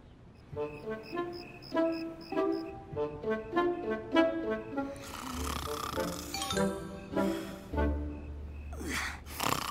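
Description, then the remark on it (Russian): Two loud, rasping snores, each a long rough breath with a low rumble, play over a bright chiming melody of bell-like notes that rings out before and between them. “Перестань храпеть!”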